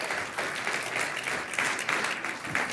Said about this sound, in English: Can we give a round of applause for all our kids workers and kids leaders?